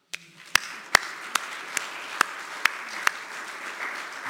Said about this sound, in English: As they say in East Africa, let's give God a mighty hand clap.